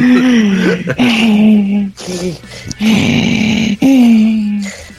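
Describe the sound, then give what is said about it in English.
Heavy, loud mouth breathing from a person during a reading: about five drawn-out, groaning breaths in steady succession, one a harsh, raspy exhale, with no other talking. “I didn't know if the breathing was part of your fucking reading.”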